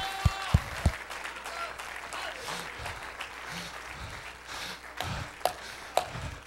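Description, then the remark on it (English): A church audience claps hands in praise of God in a sustained, dense wash of applause, with a few sharper, louder claps standing out near the start and end, fairly loud. “Let's clap our hands into him and bless his name.”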